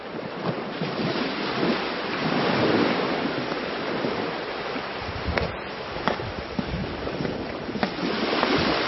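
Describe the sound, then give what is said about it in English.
Loud, steady rush of sea water roaring and surging without pause as God parts the sea for Moses and his people, with a few sharper splashes breaking through near the end and no voices. “God parted the sea and let Moses and his people pass.”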